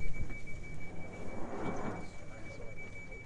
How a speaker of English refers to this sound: Behind you, there, the train.